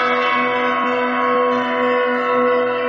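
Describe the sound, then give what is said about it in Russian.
Church bells ringing in a dense, sustained wash of overlapping tones, loud and steady throughout with only faint hints of new strikes, no voices present. “В рубрике «Наши современники» Александр Жихарев, звонарь музея «Коломенское», колокольный мастер, изобретатель.”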